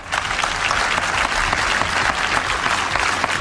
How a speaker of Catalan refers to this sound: Sentim ara aquests aplaudiments, com dèiem, d'aquest acte que s'està fent en directe, de la medalla d'or a aquestes tres personalitats, i és el tret de sortida de la celebració institucional també de la Diada